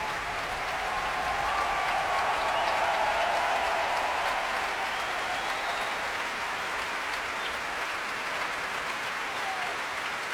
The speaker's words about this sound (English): Again, trying to deflect the applause by turning towards his players and bowing to them.